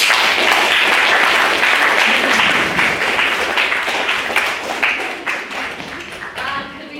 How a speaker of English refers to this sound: Second round of applause for me.